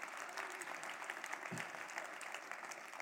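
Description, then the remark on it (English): An audience applauds steadily, a dense wash of many hands clapping that holds for the full few seconds, at a fairly soft level. “You can clap for that.”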